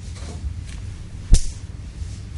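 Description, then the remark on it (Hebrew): One sharp, loud smack like a hard blow cracks out once against a low, steady rumble; no voices are heard. “אתה מציץ פנים, אתה רואה לא פחות ולא יותר, שאבא מרביץ לבנו, נותן לו מכות כאן.”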